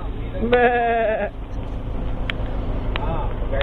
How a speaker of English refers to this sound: Here we are. We're surrounded by goats. The whole road is full of goats. As you can see, here's our goat herder. We're not going anywhere because of the goats. Hey, goats. How you doing?